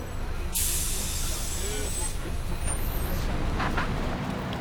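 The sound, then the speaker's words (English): A bus idles in traffic near a beach, just after passengers have got off, with a sharp hiss of air brakes bursting out near the start over a steady rumble of engines and street noise. “We just hopped off the bus and we're getting to the beach.”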